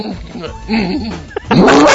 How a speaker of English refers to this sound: The worst part of it was not the video, but the sound of like the noises the horse was making.